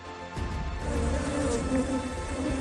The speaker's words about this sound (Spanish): La causa estaba escondida en la azotea, una colmena gigante con unas 100.000 abejas que llevaban metidas dentro del tejado más de 7 años.